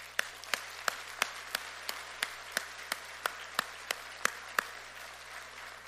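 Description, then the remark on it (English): An audience applauds in honor of mothers: a steady wash of clapping with sharp, evenly spaced claps cutting through about three times a second, holding a constant rhythm and moderate loudness throughout, with no voices. “if your life has been touched by a mother or a mother-in-law or a grandmother, or perhaps by a spiritual mother, a Sunday school teacher, or a sister in Christ, would you just join me in a round of applause as we honor our mothers today?”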